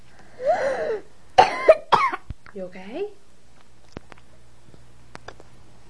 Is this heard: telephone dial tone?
no